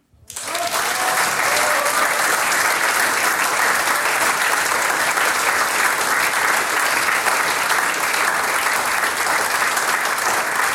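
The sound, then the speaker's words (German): A crowd breaks into sustained, steady applause that swells within the first second and keeps going at full strength, dense clapping filling the whole stretch without any voices standing out. “ein Applaus.”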